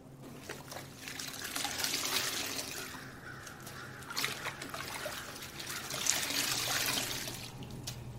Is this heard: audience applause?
no